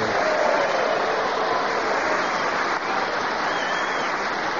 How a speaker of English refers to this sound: But now let's have a big round of applause for the winner this week, Clement Freud!